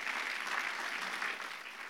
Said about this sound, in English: Hey, would you give these guys a round of applause?